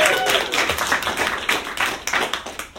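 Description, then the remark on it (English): An audience claps steadily for a few seconds, a dense, moderately loud patter of many hands with sharper individual claps standing out, filling the whole stretch with no one speaking over it. “I'm about to have a baby, guys. Clap it up, get excited.”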